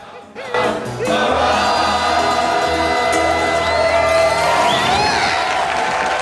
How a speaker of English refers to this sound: Two balconies lined with partially clothed men and women in frilly dresses join in the applause.